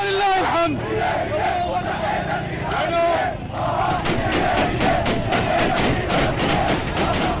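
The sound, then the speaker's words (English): A loud crowd celebrates, cheers and shouts in the streets of Damascus, Syria, early on a Sunday morning after rebels captured the capital and President Assad fled. Voices rise in chaotic chants while sharp bursts of gunfire crack repeatedly through the noise in the second half. “Celebrations erupted in Damascus early on Sunday morning. Gunfire was heard as people took to the streets.”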